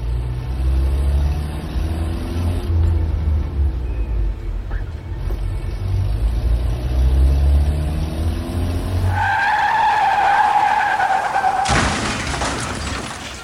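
A car engine rumbles low for several seconds, then tires let out a loud, sustained squeal as the vehicle brakes hard, ending in an abrupt burst of noise like a near-collision.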